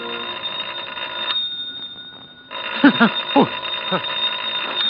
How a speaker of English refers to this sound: It's not the door, it's the phone. Oh, the phone.